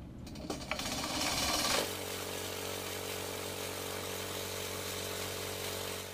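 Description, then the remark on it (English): A small blender in a lab grinds three vials of Culex mosquito samples for testing: a loud motor revs up with a rattling clatter, then settles into a steady, high-pitched whirring drone that runs continuously to the end. “This is basically a mosquito blender.”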